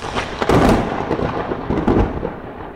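A loud thunder crack from a lightning strike, with a sharp crash near the start, a rolling rumble, and a second burst before it fades. No one speaks.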